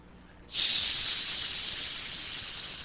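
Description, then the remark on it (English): A sudden burst of loud, bright sizzling hiss starts after a brief quiet moment and holds steady as all-beef wieners sizzle and pop on a grill, with no talking. “And just the sizzling and popping sound of a weenie on a grill, man, you start, your mouth starts watering and your stomach starts growling, and man, you're ready to tear the hinges off a door.”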